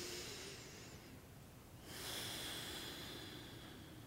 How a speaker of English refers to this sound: So I'm just breathing and feeling if my heels feel close to the ground.